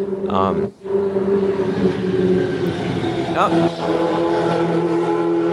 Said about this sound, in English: Another motorcycle. Quarter mile at a time, guys. That has to be our response every single time that happens.